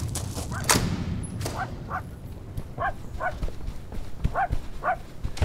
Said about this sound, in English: Shut up, you stupid dog!